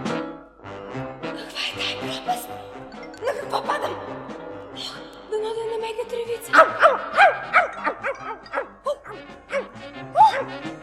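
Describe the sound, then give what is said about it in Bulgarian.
A dog barks and yips repeatedly, loud, excited bursts coming in quick irregular volleys, with some whining tones mixed in and a busy background. “Куче! Не ме захапвай, куче!”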